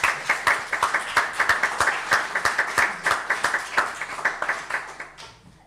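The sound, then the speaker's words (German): A church community audience claps warmly for several seconds to welcome an 18-year-old guest speaker, a dense crackle of many hands with quick sharp peaks, steady throughout and fading out at the very end. “wir begrüßen dich mit einem herzlichen Applaus, dann fällt es ein bisschen leichter.”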